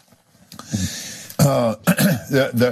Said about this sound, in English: kind of clearing his throat.